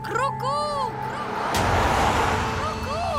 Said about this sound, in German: Doch die vorbeifahrenden Autos sind zu laut